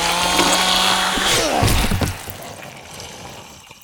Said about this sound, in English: Didn't want to leave the chainsaw idling, what with the price of gas and all.